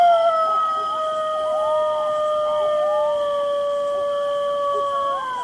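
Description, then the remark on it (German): A chorus of golden jackals howls together, several long wavering, overlapping wails rising and falling steadily for several seconds, fairly loud and clear with no one talking. “Ein Tier, das das zurzeit gut hinbekommt und vielleicht sogar von der Klimaerwärmung profitiert, ist der Goldschakal.”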